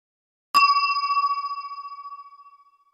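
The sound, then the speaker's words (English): A single bright chime, the signal to turn the page of a book, rings out once, clear, then its pure tone slowly fades away over a couple of seconds with a gentle shimmer. “When you hear this sound, it means you have to turn the page.”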